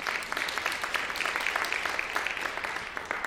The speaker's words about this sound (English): Give yourself a round of applause for that.